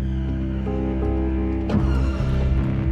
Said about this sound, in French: Oh, mais j'entends un moteur allumé.